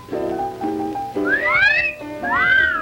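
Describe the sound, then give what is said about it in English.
Two sweeping whistles, each gliding up and then falling away, form a loud appreciative wolf whistle at the hot dogs of a concession stand, over a low humming background. “The hot dogs at our concession stand do rate an appreciative whistle.”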